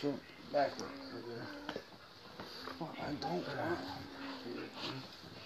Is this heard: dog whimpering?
yes